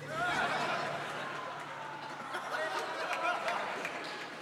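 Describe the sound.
Steady crowd applause, a dense crackle of many hands clapping at once, mixed with murmuring voices and a bit of laughter, holding fairly even loudness throughout.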